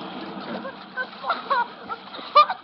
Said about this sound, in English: the incoming tide dislodges it and sweeps it into a savage, rushing riptide.